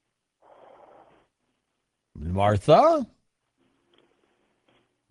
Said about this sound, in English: Nope. I heard her breathing, though.